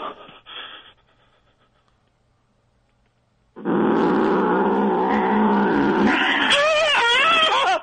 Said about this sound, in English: Oh, my God. What happened? It bit me in the jugular. The cat did. It got me in the jugular.